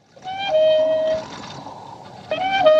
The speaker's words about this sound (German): Es herrscht Totenstille, nur das Windrad dreht sich quietschend neben dem Bahnhofsgebäude. Der Filmklassiker Spiel mir das Lied vom Tod beginnt mit diesem einsamen Geräusch, das wirkungsvoll die heraufziehende Gefahr ankündigt.